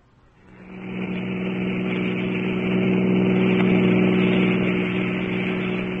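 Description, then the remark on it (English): A car engine swells up over the first second, then holds a steady, rumbling drone as the car drives away from a hotel, with no voices. “who did you push away from the car door? You drove away from the hotel?”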